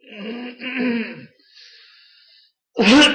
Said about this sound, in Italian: Scusate anche un po' la tosse.